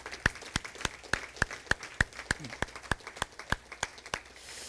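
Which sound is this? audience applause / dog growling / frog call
audience applause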